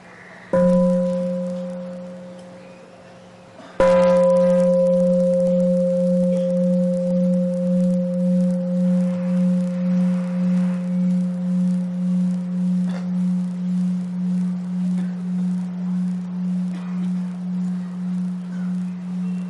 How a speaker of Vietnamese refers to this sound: Đại chúng nghe tiếng chuông xin nhất tâm thực tập năm phép quán nguyện.